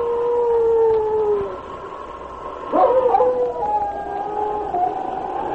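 A dog howls in long, sustained, wavering tones, fairly loud, with the pitch sliding and breaking mid-howl before settling into a thinner drawn-out wail; no one speaks.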